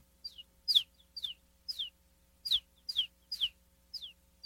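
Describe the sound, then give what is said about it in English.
A voice imitates bird chirps as a beatbox sound used in beats, with about eight quick, high, downward-sliding tweets in an uneven rhythm, fairly clear, with no talking between them. “for example, this is one that I use like in beats actually, but it's like a, it sounds like a bird.”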